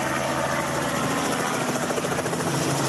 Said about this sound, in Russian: Сюда, в провинцию Кордоба, на своем личном вертолете нас подбросил Хулиан Рандель.